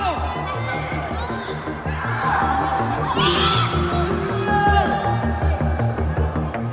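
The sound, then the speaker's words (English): A packed crowd at the Astroworld Music Festival screams and yells over pounding music, many voices overlapping in a loud, unbroken roar that swells slightly toward the end; people are screaming for help as the event turned deadly. “People were screaming, not for the music, but for help.”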